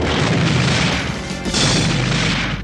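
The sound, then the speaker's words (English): A giant beanstalk, chopped through with an axe, toppling and crashing down: a loud, rumbling crash, a continuous roar of heavy booming and splintering that surges again partway through, with no voices. “Finally, Jack chopped all the way through the beanstalk and sent it toppling.”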